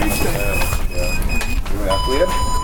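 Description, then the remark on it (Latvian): Several high electronic beeps from GPS wristbands, checked by orienteering competitors in the empty Brasa prison in Latvia on a Saturday morning, sound in sustained bursts, each a steady pitched tone, heard under people talking. “Skanošie pīkstieni nav kardiogramma.”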